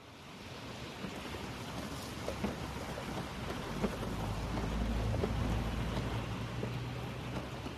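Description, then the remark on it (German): Heavy rain pours down in torrents in a dense, steady hiss, with a deep low rumble swelling midway like thunder. No voices are heard. “Cheryl konnte sich nicht daran erinnern, wann es zum letzten Mal so stark geregnet hatte.”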